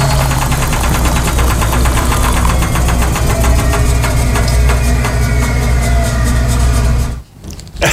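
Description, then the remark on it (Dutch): A washing machine runs loudly and steadily, its motor humming with a fast rhythmic thumping, then cuts out abruptly near the end. No one speaks. “Dat laatste was de wasmachine weer even die voorbij kwam.”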